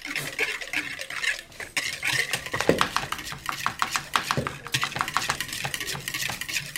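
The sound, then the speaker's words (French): Chopped potatoes, onion, yellow pepper, cucumber and four tomatoes being tossed and mixed in a bowl, with a steady run of soft clinks, scrapes and wet rustles from a utensil against the bowl, and no voices. “Je coupe tout, je mélange tout.”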